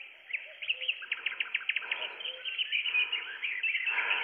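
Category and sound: bird, songbirds singing at dawn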